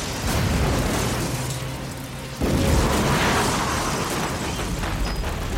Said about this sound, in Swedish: Plötsligt ekar en hög explosion och skriken blir om möjligt ännu högre.